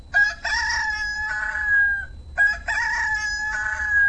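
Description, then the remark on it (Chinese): A rooster-crow alarm tone from an alarm clock set to go off at 17:01 plays twice in a row, each a loud, bright cock-a-doodle-doo lasting about two seconds, with a thin electronic quality and no talking. Pressing any key stops the alarm. “在闹钟工作的时候，你按任意键都可以停止这个闹钟。”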